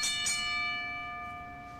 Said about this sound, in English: it's been a long time, and I'm sure you're anxious to ring the bell.